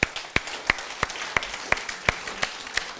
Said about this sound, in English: Thank you. Give the Lord a clap.